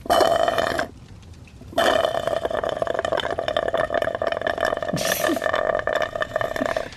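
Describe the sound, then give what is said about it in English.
Loud, gurgling slurps of chocolate milk drawn through a straw: a long raspy pull, a pause of about a second, then a longer sputtering slurp that carries to the end. “Orpheus nods at the slurping and says, "Ah, music to my ears."”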